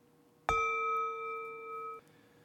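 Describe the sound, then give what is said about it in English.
A single meditation bell is struck once during a guided meditation, its clear metallic tone ringing on steadily for about a second and a half before being cut off abruptly. No voices accompany it. “And for just the time that we hear the bell going, silently offer, may I meet this moment just as it is.”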